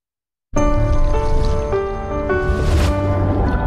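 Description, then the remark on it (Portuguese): Water gushes steadily from a tap, starting abruptly after a brief moment of silence and running loud, with a faint ringing hum in the pipes, until the end. “Feche a torneira.”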